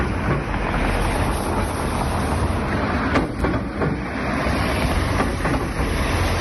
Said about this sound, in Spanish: Este es el estruendo que provocan los coches al pasar por una chapa metálica con la que algún operario del Ayuntamiento de Santiago ha tapado un agujero en la calzada de la Travesía de Osar